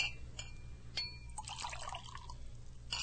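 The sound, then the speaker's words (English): Wine is poured into a glass for tasting in a short burst of gurgling liquid, with a few light glassy clinks before and after, fairly quiet against a low background hum. “What are you doing? Tasting the wine.”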